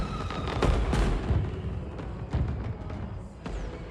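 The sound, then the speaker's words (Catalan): New Year fireworks light up the sky in front of a lookout point, bursting repeatedly in a dense, overlapping barrage, sharp cracks and deep booms landing every second or so over a continuous rumble, loud with no voices. “Contemplen junts els focs artificials.”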